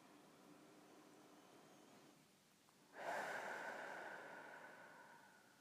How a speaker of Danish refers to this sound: Jeg tager en dyb vejrtrækning og giver slip.